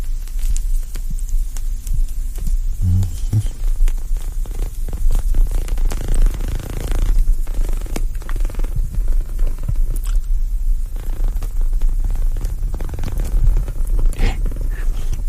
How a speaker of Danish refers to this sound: Hvad er dog det for en lyd? Det er ligesom om cigaren knurrer. Eller var det tændstikken? Jeg ved det ikke. Mystisk. Nå, nu siger den i hvert fald ikke mere.